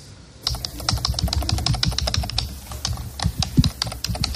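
Rapid, steady typing on a computer keyboard in the office of the head of psychiatry at the Hospital Provincial de Pontevedra, with many crisp key clicks in an irregular flurry and no voices.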